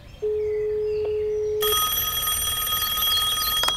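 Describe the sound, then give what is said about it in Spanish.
A steady low dial tone hums for over a second, then a bright, buzzy telephone ring starts and keeps sounding as a call is placed to a natural sciences teacher, fairly loud and rich in high overtones, with no one talking. “¿Qué tal si llamamos y preguntamos?”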